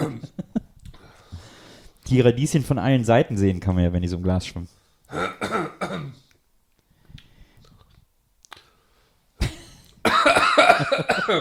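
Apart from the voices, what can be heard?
coughing and throat clearing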